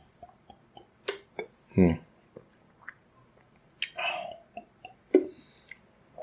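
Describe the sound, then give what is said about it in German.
Quiet mouth sounds of someone drinking still water in hot weather: soft wet clicks and lip smacks, a heavier gulping swallow partway through, and a few more sips and swallows after, with no talking. “Ich trinke für die Sicherheit nochmal Wasser hinterher, weil irgendwie ist recht bei dem heißen Wetter, ist das wichtig.”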